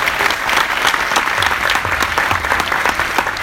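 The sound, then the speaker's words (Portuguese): A crowd claps in a loud, steady burst of applause congratulating someone on 200 in sales the previous day, dense overlapping hand claps sustained at an even level for a few seconds with no voices standing out. “Salve de palmas, gente.”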